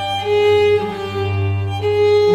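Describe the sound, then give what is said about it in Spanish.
A violin imitates a European turtle dove's purring call, as in Vivaldi, with sustained, rich bowed notes in a few swelling phrases, playing loud with no voices. “La tórtola de Vivaldi, así.”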